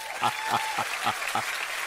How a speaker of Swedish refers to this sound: Tokapplåder. Ja. Jubel. Stående ovationer i Almedalen.